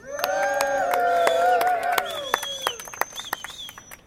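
An audience breaks into applause, with a dense wash of clapping and several high-pitched whoops and cheers rising over it before the claps thin out into scattered final claps.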